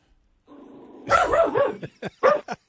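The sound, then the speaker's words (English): A watchdog sitting up on a window ledge in La Jolla by the beach lets out a low whine, then a drawn-out yowling bark followed by three or four short, sharp barks in an uneven rhythm. No one speaks over it. “And about your dog that's in the background.”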